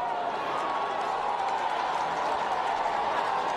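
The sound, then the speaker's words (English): A crowd of onlookers cheers and shouts in a steady, dense roar of many voices that holds at an even level throughout, with faint clapping mixed in, at a building collapse on Lagos Island, Nigeria, as news reaches them that several children were rescued from the debris. “Several children were rescued from the debris, and the crowd watching cheered when that news reached them.”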